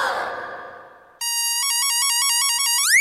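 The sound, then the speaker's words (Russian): A loud electronic telephone ring at the NPDD (emergency good deeds office) warbles rapidly between two tones for about two seconds, ending in a quick upward sweep, after a brief fading burst of sound; the call is from the Tretyakov Gallery. “Так точно. НПДД у телефона.”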